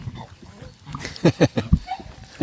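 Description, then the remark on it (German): A small dog lets out a quick burst of four or five sharp, snorting yaps, followed by a single short yip, over a faint outdoor background. “Der Hund hat die Wurst gerochen, glaube ich.”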